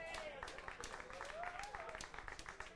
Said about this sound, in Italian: che sono venuti stasera. Un applauso agli amici.